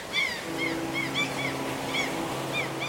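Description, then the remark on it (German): Steady wash of the sea, with waves breaking along the shore, under repeated high gull-like cries and a low engine hum that starts shortly in. “Das Meer ist allgegenwärtig.”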